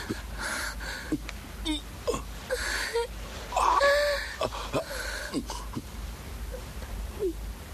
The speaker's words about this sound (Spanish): …, estás llorando. ¿Lloras?